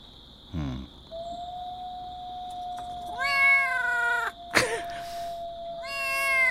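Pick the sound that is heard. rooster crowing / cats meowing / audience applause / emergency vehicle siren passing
cats meowing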